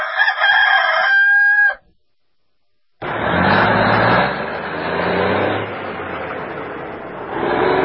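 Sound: rooster crowing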